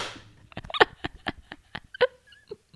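A short run of about eight or nine sharp hand claps at a slightly uneven pace, each a crisp, bright smack, with no voices.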